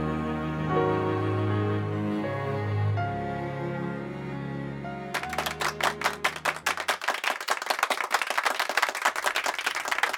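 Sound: children's applause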